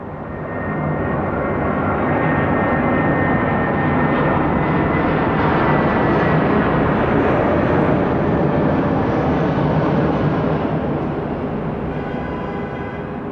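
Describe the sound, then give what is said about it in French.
An airplane passes overhead, its broad engine roar swelling to a peak around the middle and then slowly fading, loud and continuous with no voices. “Et je vous dis, il y a des avions bien spécifiques où je reconnais à peine quand ils sortent de Rangueil, là-haut, qui passent par...”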